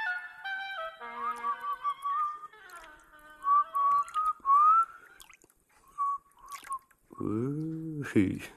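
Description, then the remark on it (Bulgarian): A person whistles a wavering, meandering tune of short and sliding mid-pitched notes with brief pauses, then a voice briefly speaks at the end. “Още съм можел да свира с уста.”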